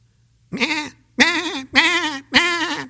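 Four loud, nasal sheep bleats in a row, each wavering and lasting about half a second, with short pauses between and a low steady hum underneath.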